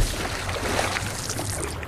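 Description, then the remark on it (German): Water churns and sloshes steadily as a man is dunked and thrashes in a barrel of stinking water. The splashing is continuous and fairly loud, with no voices. “Kurze Pause, ehe er mir noch absäuft in diesem stinkenden Wasserfass.”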